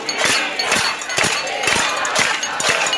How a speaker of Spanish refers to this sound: Las cacerolas sonando en Argentina, amigas y amigos de América Latina, mientras los diputados sesionaban, marcan un nuevo condimento, una nueva señal de descontento social